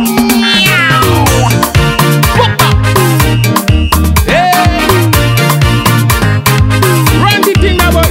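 Repeated cat meows with rising and falling pitch ring out over a loud, steady musical beat with thumping bass and drums, the meows blending into the dense backing.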